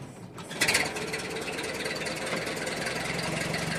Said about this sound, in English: I wonder, he thinks, if this type of car starts easily. In a dream, he starts the car.